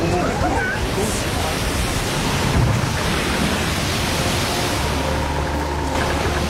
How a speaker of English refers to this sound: The sea roars.